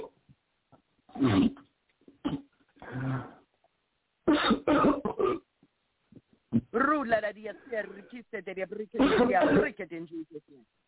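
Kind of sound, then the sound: human body sound, coughing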